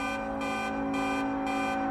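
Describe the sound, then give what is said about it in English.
Loud, steady car horns blare without letup over a dense wash of jammed traffic noise outside Union Station after an earthquake, with stoplights out; a harsher layer pulses on and off every half second. No one speaks. “Stoplights are out, traffic is jammed, and it's loud.”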